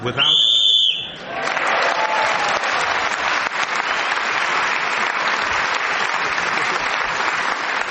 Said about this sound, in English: Clement Freud was then speaking as the whistle went